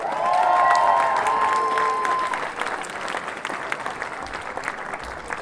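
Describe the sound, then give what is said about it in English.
An audience at a show applauds a band with steady, dense clapping that stays loud for a few seconds and then gradually thins, with a brief high whistle or cheer rising over it near the start. “Let's hear it for the ….”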